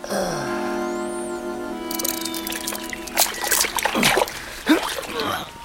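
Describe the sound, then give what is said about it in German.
Waves wash and splash in irregular surges over a person lying on a slope with the back of the head in the water, following a steady low humming tone at the start; the sloshing swells and breaks a few times without any talking. “Auf dem Abhang mit dem Hinterkopf im Wasser. Und lass dich von den Wellen in den Schlaf lullen.”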